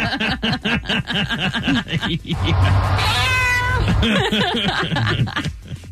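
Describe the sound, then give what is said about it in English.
Between stretches of talk, a person lets out a loud, drawn-out imitation of a cat's meow. The single sustained, wavering yowl lasts over a second before speech resumes. “Do you think it's just going to be meow, meow?”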